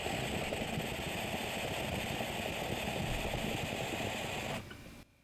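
A long, steady inhale of a dab of GMO hash: a continuous hissing, rumbling draw with a low bubbling texture that holds for about four and a half seconds, then cuts off abruptly. No one talks.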